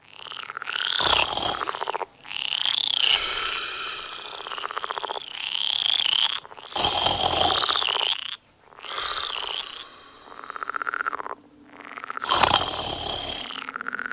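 A dense chorus of croaking frogs fills the night, loud rasping calls overlapping in repeated bursts and swells, with a constant trilling bed underneath and no voices.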